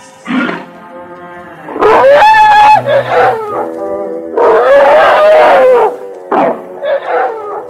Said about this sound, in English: whole herds of playful Indian elephants migrate here to bathe. Watch out for some wet surprises from those big shots. And the little ones, too, they're playful little squirts.